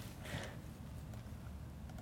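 Faint, irregular clicks of someone hunting and pecking on a computer keyboard during a software demonstration, typing a storage account name and Control C, a few scattered keystrokes over a low steady background hum, with no one speaking.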